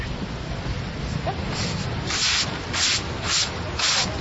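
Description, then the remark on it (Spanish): A broom sweeping out floodwater from the improvised tents set up by community mothers in front of the ICBF on Avenida 68, which flooded the day before: about six rhythmic, hissing swishes, one after another, over a steady low rumble of background noise. “lo que tú escuchas al fondo es una escoba con la que intentan sacar el agua con la que se inundó el día de ayer las carpas improvisadas que han hecho las madres comunitarias acá en el ICBF, al frente del ICBS, acá en la avenida 68.”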